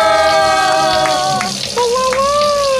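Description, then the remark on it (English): A prize wheel spins with steady, evenly spaced clicks ticking roughly three times a second, playing over a sustained musical tone that shifts pitch partway through. “Let's spin that wheel.”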